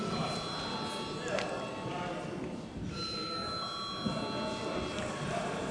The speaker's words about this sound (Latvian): Deputāti prasa balsojumu. Lūdzu zvanu.